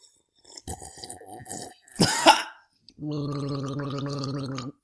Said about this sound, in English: where we talk movies and comics and TV shows, and sometimes we just pause in the intro and take a drink of water. Ooh, let's do that now.